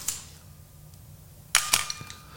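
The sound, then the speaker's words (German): A sharp mechanical camera click near the start, then after a pause a quick cluster of two or three crisp snaps and a softer tick, fairly loud with no talking. A lens aperture snaps shut on shutter release, with the camera back open and a slow shutter speed of about a quarter or half second, testing the lens. “Das heißt, ich muss, wenn ich durchgucke, muss ich ein kleines Loch sehen.”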